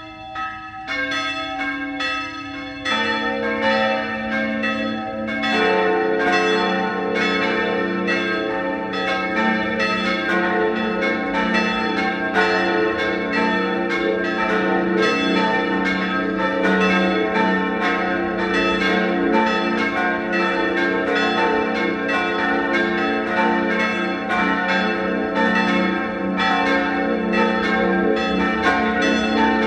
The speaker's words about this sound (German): Es ist 12 Uhr. Sie hören die Glocken der Pfarrkirche Papneukirchen in Oberösterreich.